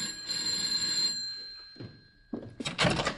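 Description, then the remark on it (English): A doorbell outside a woman's door rings with a steady, bright metallic tone for about a second, then fades, followed by a few dull thumps and a louder burst of rattling, shuffling noise. “For at that moment, the ominous finger of fate is about to press the bell outside her door.”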